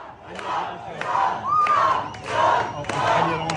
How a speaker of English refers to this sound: There he is outside of a Cuban kitchen and bakery with thousands of people outside cheering, chanting his name, chanting USA.